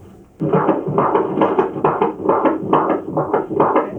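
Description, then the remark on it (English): A baby boy's fetal heartbeat through a Doppler monitor at a routine pregnancy checkup: fast, steady whooshing pulses, roughly two or three per second, loud, with a constant swishing hiss underneath and no voices. “We're gonna listen to the heartbeat now.”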